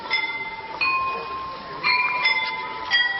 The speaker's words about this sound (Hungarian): A gongora hangja egy kicsit eltér a jól ismert harang hangjától. Rövid, erős csengése van, és ezért sokkal gyorsabb dallamok is lejátszhatok, így a zenei repertoár jóval bővebb.